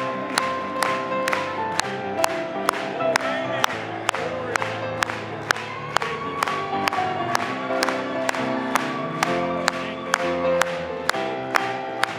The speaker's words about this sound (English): Clap it one more time.